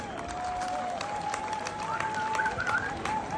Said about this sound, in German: Erstmal, bevor ich es vergesse, danken wir natürlich allen Unterstützern, allen Sponsoren, die hier mitgewirkt haben und uns das ermöglicht haben. Einen fetten Applaus einmal für die alle.